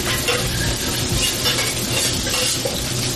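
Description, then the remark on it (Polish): Green peppercorns fry in strongly heated butter with a steady, dense sizzle, with faint stirring and occasional small pops and spatters throughout; no one speaks. “Przesmażamy na mocno rozgrzanym maśle. Zielony pieprz. Można troszkę pryskać, strzelać.”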